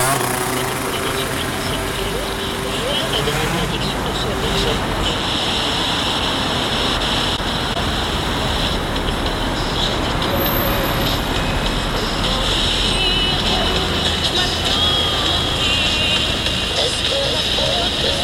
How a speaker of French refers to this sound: Alors du coup, est-ce que tu peux me dire pourquoi tu as choisi le bruit des voitures ? Parce que c'est un bruit que je trouve d'une part assez mélodieux et d'autre part assez rythmé.